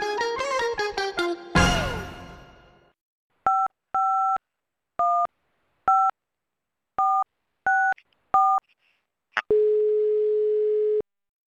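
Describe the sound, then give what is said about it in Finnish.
A test recording of a phone call placed to Kansanradio in Finland: a quick run of electronic tones and a noisy burst, then eight crisp keypad dialing beeps in an uneven rhythm, ending in a steady, clear call tone. No one speaks. “Tässä kokeilen oman puhelun äänitystä.”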